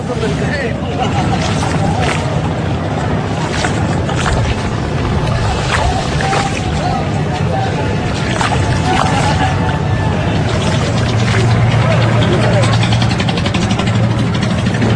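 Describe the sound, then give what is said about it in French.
Busy harbor ambience at the port of Dakar: a steady low engine rumble and idling motors run throughout, with a murmur of crowd chatter and scattered clanks and knocks on top. “Enfin, on est sur le port de Dakar, là.”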